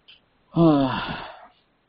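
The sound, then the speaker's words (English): A single loud sneeze bursts in sharply, then trails off in a voiced, slightly falling tone lasting about a second, preceded by a tiny faint click and followed by silence. “God bless you.”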